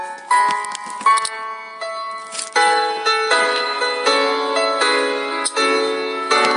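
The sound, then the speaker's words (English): A clock sounds on its own, bright ringing chime-like tones struck in a steady repeating pattern, fairly loud, with no voices, until it is turned off. “Hold on, I have to turn off my clock here.”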